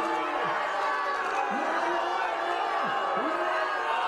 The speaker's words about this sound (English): There were some pretty unusual scenes in Luxembourg today, where British officials pulled out of a press conference last minute when it became clear it was going to be staged in front of a crowd of baying protesters. This is what it sounded like.